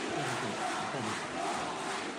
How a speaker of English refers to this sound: Lawmakers applauded him before an inauguration speech.